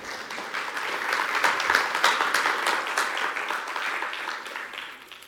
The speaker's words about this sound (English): If you're deciding like now that you want to get, stop clapping already. Save it for later.